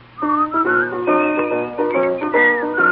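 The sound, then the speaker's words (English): A person whistles a bright, bouncy tune in short stepping phrases, carried over steady instrumental accompaniment with no talking. “Maybe they'll whistle and you will hear.”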